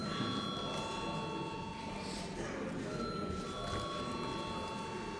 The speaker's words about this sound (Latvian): Paldies, lūdzu zvanu.